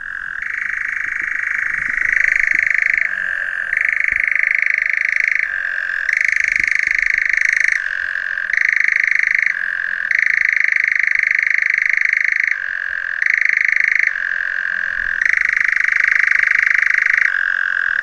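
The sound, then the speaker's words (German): A European nightjar's continuous mechanical churring trill runs unbroken and loud, its pitch stepping up and down between two levels every second or two, with no voices present. “So, das war jetzt der Ziegenmelker und jetzt kommt die Kreuzkröte.”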